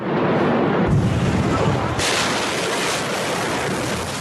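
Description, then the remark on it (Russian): A massive explosion at the port of Beirut, comparable in power to a tactical nuclear weapon and estimated at 2.2 kilotons, roars loudly: a dense wall of rumbling noise that surges abruptly twice and keeps thundering without a break for several seconds. No voices. “Это был взрыв, сопоставимый по мощности с тактическим ядерным оружием.”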